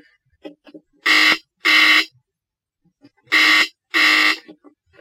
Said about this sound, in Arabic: هات دلوقتي الجرس بيضرب.